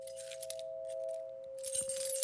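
Keys jangle in bright, metallic clinking bursts, a light rattle at first and then a louder, busier jingle near the end, all over a steady high-pitched electrical hum with no one speaking. The keys are used to open doors in a facility where patients are held in isolation.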